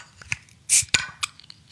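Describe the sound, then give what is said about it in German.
A bottle of Kona Brewing Big Wave Golden Ale is pried open: a few sharp metallic clicks, then a very short, weak hiss of released gas, followed by more small clinks and taps. “Ich fange an und hier kommt jetzt das Geröff von Kona Brewing Big Wave Golden Ale.”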